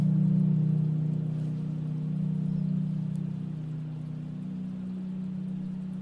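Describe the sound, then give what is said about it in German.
A lingering echo hangs in an echo tower, a low, steady resonant drone with soft overtones that slowly weakens over several seconds, with no voices present. “Alles, was man jetzt noch hört, ist das Echo.”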